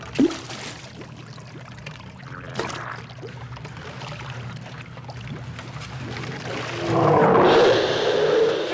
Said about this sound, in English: Luke goes down into the water, and we're left with just the sound of sewage.